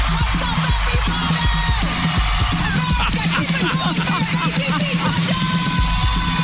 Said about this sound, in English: Everybody's just screaming.